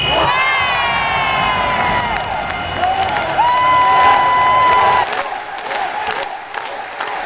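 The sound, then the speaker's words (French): A loud crowd of basketball supporters in a well-filled sports hall cheers and shouts after the final whistle of a 92-65 win by the yellow-and-black team, with high sustained tones and whoops rising over the steady roar before it thins slightly near the end. “Les supporters étaient ravis. Florilège après le coup de sifflet final.”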